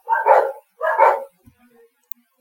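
A dog lets out two loud, gruff barks in quick succession, close by, followed by a brief faint click and near silence.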